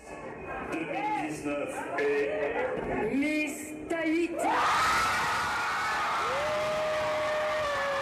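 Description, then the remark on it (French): A lively crowd in Tahiti, watching the Miss France 2019 election broadcast live on giant screens in bars and restaurants, chatters and shouts, then erupts into loud, sustained cheering with whoops and shrieks of joy as the verdict falls, a high-pitched scream rising above the roar near the end. “Oui, des cris de joie.”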